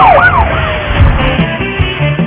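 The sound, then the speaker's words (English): A police car siren wails with quick rising and falling sweeps, loud, during a car chase after a bank robbery, over a steady roar of engine and road noise that continues after the wail fades. “Police car chasing us.”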